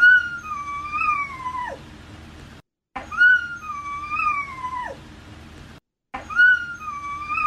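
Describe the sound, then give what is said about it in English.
A dog whines in long, high, wavering cries, three drawn-out whimpers repeated with short silent gaps between them, fairly loud over a low steady hum. “Here's the dog whining.”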